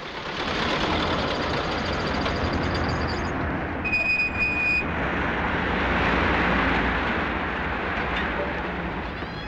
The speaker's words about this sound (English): Their truck lurches dangerously as Tom pulls into a dip off the road.